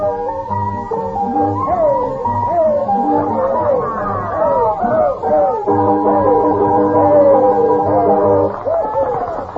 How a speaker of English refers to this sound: They had a noisy clientele at the shanty.